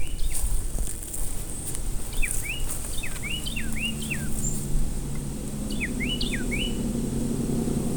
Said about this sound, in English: Okay, I love the sound clip because you've got the chickens in the floor right up front. I was like, okay, that's a chicken. And then, buddy, that's a cardinal. And then you hear like the cars in the background, right?